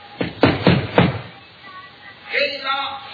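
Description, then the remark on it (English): Four firm knocks on a door in a quick, steady rhythm, dull and resonant, followed after a brief pause by a man's voice beginning to call out. “Therefore we'll knock.”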